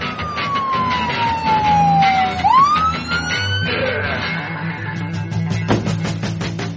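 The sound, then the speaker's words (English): A police siren wails as a police car pulls up, its pitch sliding down and then sweeping back up before cutting off, over a steady rumble of engine and traffic noise. “I already called the cops! Oh, look, they're pulling up now.”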